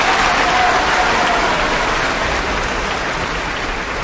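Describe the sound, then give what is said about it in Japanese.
A steady, dense wash of sampled applause sound effect, many small claps blurring into a continuous hiss with no voices over it, holding at an even loudness for the full four seconds, thin and slightly tinny like a canned sample. “ちなみにこの拍手は、大公開時代から音を、サンプリングしてますので、非常にしょぼい拍手ではございます。”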